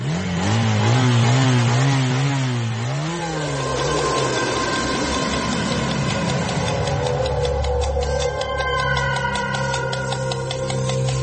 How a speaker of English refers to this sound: A mouse on a motorbike. Motorbike? It was a motorbike